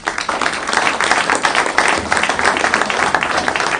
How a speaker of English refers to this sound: They beat this team. Won the state title 3 years in a row, and these girls beat them. So, nice round of applause.